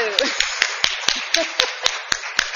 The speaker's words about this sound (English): I think they all did a absolutely fantastic job, and I'd like them all to stand so we can give them another round of applause.